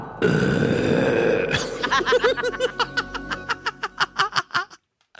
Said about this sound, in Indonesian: Itulah sendawa.